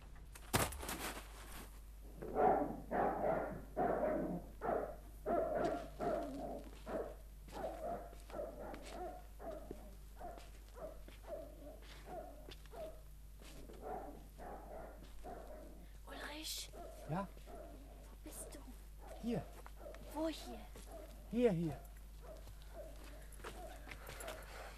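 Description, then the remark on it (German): A dog barks at a residential home in a quick run of repeated woofs early on, then in scattered, softer barks and whimpers, with people talking at times. “Sonst weckt der Hund noch das ganze Heim auf.”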